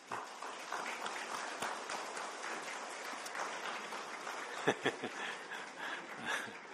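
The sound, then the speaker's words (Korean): Sustained applause from a large church audience welcoming a baby attending for the first time, a dense steady clatter of many hands with a few louder claps standing out near the end, plus scattered light laughter. “우리 나올 때 박수로 우리 환영할까요?”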